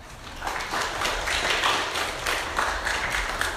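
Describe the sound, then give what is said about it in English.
A crowd applauds the readers steadily, many hands clapping together in a dense, even patter that holds at a moderate level for a few seconds with no one speaking. “Let's give our readers a round of applause.”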